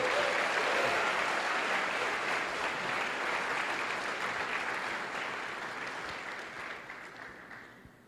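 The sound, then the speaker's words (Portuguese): An audience at a church conference applauds the Lord steadily, a dense wash of many hands clapping at once, loud throughout and tapering slightly toward the end, with no speech over it. “Alguém consegue aplaudir o Senhor com vontade nessa conferência?”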